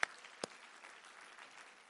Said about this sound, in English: Can we clap our hands to God today?